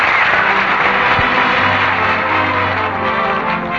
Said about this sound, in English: You know, there's a lot more applause for you, too, that you can't hear.